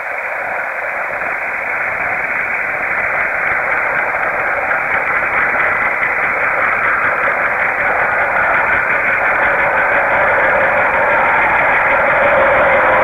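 A train going by, picked up at a former train track that is now a bike path where trains ran about 50 years ago, heard as a steady, muffled roar with a thin, radio-like tone and faint rhythmic flutter, growing slightly fuller and more train-like toward the end. No one speaks.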